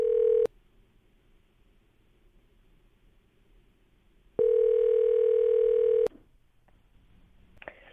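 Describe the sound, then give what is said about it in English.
A phone line rings out with a loud, steady ringback tone: a brief tail of one ring, a long quiet gap, then a full ring lasting under two seconds before cutting off. “We got the phone actually ringing.”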